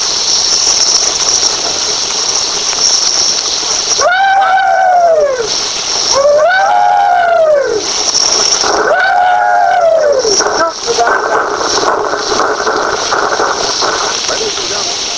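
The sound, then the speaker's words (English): A group of Confederate veterans lets out the rebel yell for radio station WBT in Charlotte, North Carolina: three rising-and-falling, high-pitched whooping cries in quick succession, loud over a steady hiss and crackle of an old recording. “we'll have the rebel yell broadcast on the radio for the first time in history.”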